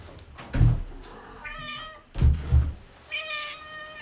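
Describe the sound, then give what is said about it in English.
A cat meows three times, its harmonic cries rising and falling, interspersed with dull thumping knocks against a door as it tries to get into the room. No one talks over it. “I have a cat trying to get in the room.”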